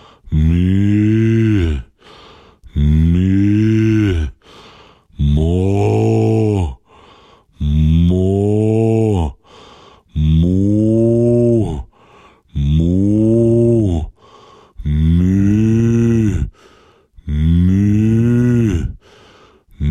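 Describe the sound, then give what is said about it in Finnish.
A human voice imitates a cow as a vocal breathing exercise, giving eight long, loud mooing calls in a steady rhythm, each lasting about two seconds with short pauses between, with no other talk. “Hyvä lehmät, hienoa.”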